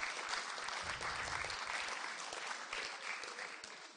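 An audience applauds steadily for a child coming forward, a dense patter of many hands clapping at an even level throughout, with a brief low murmur of a voice partway through.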